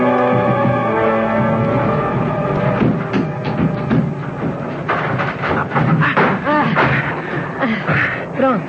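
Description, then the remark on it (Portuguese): A door is forced open with a run of heavy, irregular thuds and cracking bangs over a steady low hum, followed by voices talking amid more scraping knocks. “Arrombamos a porta.”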